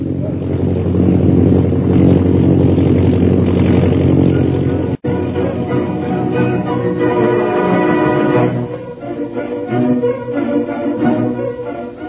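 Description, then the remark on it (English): A propeller airplane drones loudly overhead as it flies toward a pass ahead, its engine a steady, throbbing hum that cuts out for an instant, then resumes and gradually eases as it passes. “An airplane flying toward the pass ahead.”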